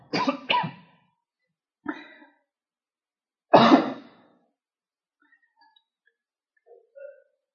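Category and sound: human body sound, coughing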